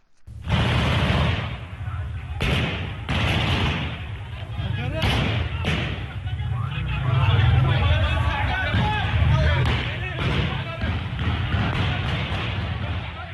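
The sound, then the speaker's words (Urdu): Loud, chaotic crowd noise of people shouting and screaming near the town of Tuz Khurmatu, in an amateur video after a drone attack, broken by several sharp, heavy booms and thuds of explosions at a Shia militia camp that burst out irregularly over the continuous din. “ڈرونوں کے حملے کے بعد ایک غیر پیشہ وارانہ ویڈیو میں تسکرماتو نامی قصبے کے قریب لوگوں کو چیخو پکار کرتے اور شیعہ ملیشیا کیمپ میں دھماکے ہوتے دیکھا جا سکتا ہے.”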